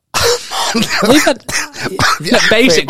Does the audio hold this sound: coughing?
yes